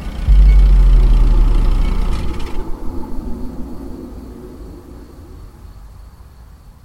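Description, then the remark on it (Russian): A blue Peugeot's engine cranks with a loud rumbling growl as the key is turned in the ignition several times, then sputters in uneven pulses and dies away without catching. No voices. “Несколько раз повернула ключ в зажигании. Машина рычала, гудела, пыхтела, но не заводилась.”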